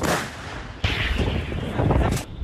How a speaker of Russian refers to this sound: Гармата! Гармата!